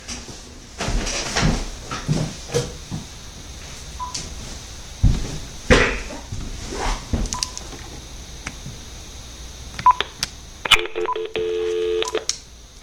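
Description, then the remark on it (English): Rustling and clicking of a phone being handled as the speaker switches to another phone, with a couple of isolated beeps, then a quick run of electronic keypad dialing tones near the end. No one speaks. “I need to switch phones because this one's running out of juice.”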